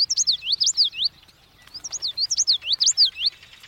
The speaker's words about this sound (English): The common yellow throat.